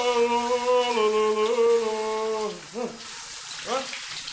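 A steady hiss of warm shower water runs throughout, while the person showering hums a long sustained note over it and then breaks into short rising sounds.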